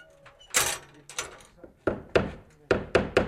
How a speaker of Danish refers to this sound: Der bliver hamret, banket og malet for at få sanseudstillingen på Brands færdig til tiden.